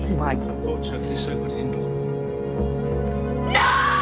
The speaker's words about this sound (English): It's a different tone. It's a different tone scream. I know they overdubbed the sting over it to bring up the sound, but it's a different tone scream.